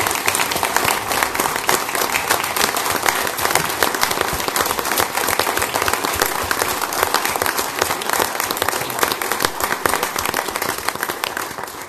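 Sustained applause from a sizable crowd, a dense steady wash of many hands clapping at once, loud and close, holding evenly for about twelve seconds with no voices standing out.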